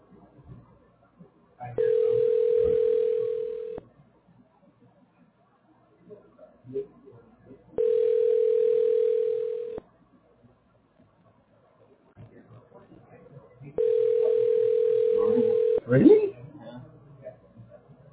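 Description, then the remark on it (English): A telephone ringback tone heard over a call: three steady, mid-pitched buzzing tones, each about two seconds long, spaced by pauses with faint background murmur between them. “Still ringing.”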